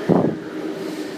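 A rapid train bound for Tokyo rolls into platform 4 at Asagaya Station, Japan: a steady low rumble with a faint whining hum and a brief heavier thump at the start, with no voices.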